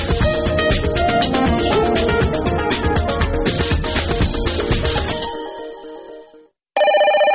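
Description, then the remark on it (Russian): A telephone on a radio station's answering-machine line in Minsk, which is on around the clock, rings with a loud, rapid, trilling electronic tone for several seconds, fades out into a brief silence, then a fresh ring burst starts abruptly. No one speaks. “Телефон «Автооткачник» уключенный круглые сутки.”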